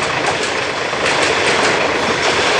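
A train at least a kilometer long rolls past at a level crossing, a loud, steady roar of wheels and cars with faint rhythmic clacking, continuing without a break for the whole stretch and no voices.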